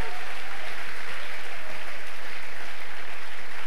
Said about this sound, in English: Can we give God a big hand? Hallelujah. Come on, you want to clap? Give the Lord a big clap tonight.